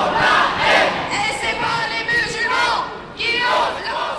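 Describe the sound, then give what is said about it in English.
A large crowd of thousands marching through rainy streets in Paris against Islamophobia chants and shouts together, a dense, loud roar of many voices rising and falling in waves, with individual raised voices cutting through. “Thousands of people marched in Paris and other French cities against Islamophobia, targeting Western Europe's largest Muslim population.”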